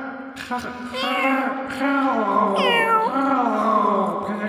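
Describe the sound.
A person's voice imitates a cat, producing a few drawn-out, wavering meows with rising and falling pitch, fairly loud, with no other talking.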